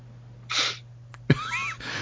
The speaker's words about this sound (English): I sneezed. You sneezed.